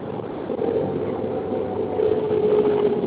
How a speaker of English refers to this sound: Hello? Oh, caller is in a car. And they have a lot of feedback in the background.